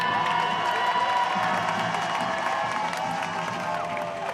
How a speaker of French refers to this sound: Hey, Paris, ça va ou quoi ? Et on a pris tous les grands boulevards quand même, hein. On peut s'applaudir, c'est un grand succès, non ?